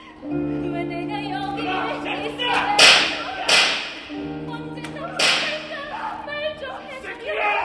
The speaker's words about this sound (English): "I can't believe I'm here. I'm a daughter of the government," the dancer sings, as the guards whip the other inmates.